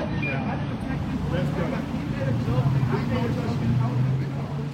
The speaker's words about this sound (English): The camera is down the block and shooting across the street, so you're getting a lot of car noise.